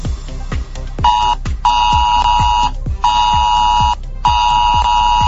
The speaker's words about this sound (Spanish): Es el sonido del sistema de alerta de emergencias que hoy miércoles realiza su prueba en la isla Conejera, una actuación que previamente ya se ha realizado en otras islas. Después de este pitido, tu teléfono comenzará a vibrar